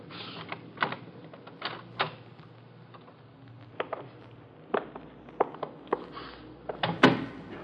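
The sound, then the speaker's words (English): A door is being opened, with a scattered series of sharp clicks and knocks from the latch and handle over a low steady hum, ending in a louder clack. No one speaks. “this door might do it.”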